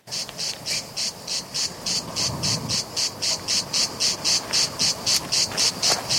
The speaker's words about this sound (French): La cigale, dès qu'elle sent votre présence, elle s'arrête de chanter. Alors tu peux toujours courir pour la rattraper. Alors le secret, c'est qu'elle s'habitue à vous et qu'elle recommence à chanter.